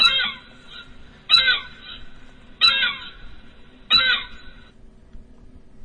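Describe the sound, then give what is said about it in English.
A seagull eating garbage calls four times in a row, loud, harsh mewing squawks spaced evenly about a second apart, with no other sounds around them. “That's a seagull eating garbage.”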